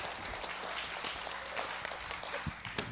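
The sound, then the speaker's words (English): An audience claps together to vote by show of hands for one of the options, a dense, steady wash of many hands striking at once, broad and crackly, with no voices breaking through. “By a show of hands, how many of you think this one, just a clap, would you?”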